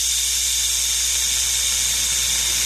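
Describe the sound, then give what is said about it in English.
A rattlesnake's rattle comes through a phone line as a steady, dry, high-pitched buzzing hiss that never pauses for nearly three seconds, with a faint low hum beneath it. “Oh, it's a really bad-sounding rattlesnake.”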